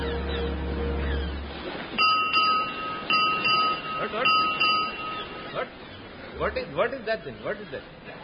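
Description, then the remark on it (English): A ship's bell rings six bells: three pairs of bright, ringing strikes with sustained metallic tones, followed by people talking. “What is that? Six bells?”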